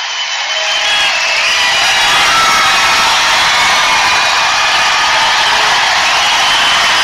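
A loud, dense roar from a large crowd at a Trump rally, cheering and chanting without letup for several seconds, a wall of voices that swells in right away and holds steady.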